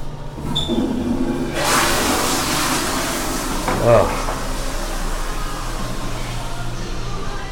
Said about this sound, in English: Let me flush first.